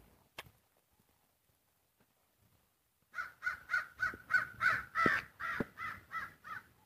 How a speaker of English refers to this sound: Crows, two of them. Two crows, no waiting.